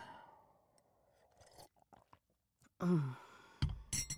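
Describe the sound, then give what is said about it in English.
Someone takes a quiet sip of coffee with soft slurping and swallowing, followed by a louder satisfied murmur and a few small clinks at the end. “I need a sip of coffee.”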